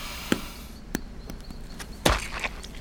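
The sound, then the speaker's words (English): A few sharp stomps squash apples at an uneven pace, ending in one louder, wetter splat, with no one speaking. “You can't just stomp on all the apples.”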